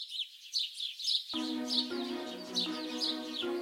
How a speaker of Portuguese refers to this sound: Maria e José acharam graça e os passarinhos gorjeavam com toda a sua força.